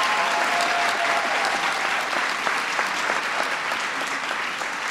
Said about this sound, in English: And one of the reasons why we wanted to bring this group together is that we have many military kids in the audience today. Can I just hear a round of applause for the folks who are military kids?